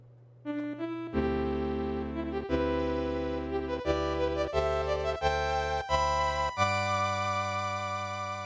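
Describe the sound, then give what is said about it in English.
A bright synthesized video game chime plays alone: a short rising note, then a series of full chords stepping along in a steady rhythm, ending on a long sustained chord. “So let's take a listen to that chime.”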